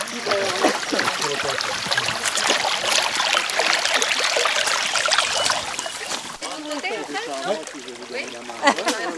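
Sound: flowing stream water trickling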